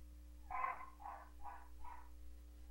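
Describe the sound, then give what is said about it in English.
The speaker's own dog makes four short, evenly spaced whining yelps, the first loudest, over a low steady electrical hum. No one speaks. “This frickin' dog of mine, I'm getting ready to go and kill that frickin' dog.”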